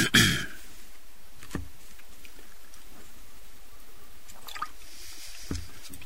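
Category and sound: human body sound, person drinking water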